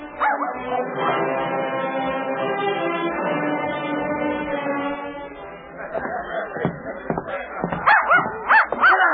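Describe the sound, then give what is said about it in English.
A small, funny-looking, limping dog named Schnitzel whimpers and whines in long, drawn-out cries while following someone, then breaks into a quick run of sharp, high-pitched yips and barks, fairly loud. “This funny-looking animal, he keep following me and barking all the time.”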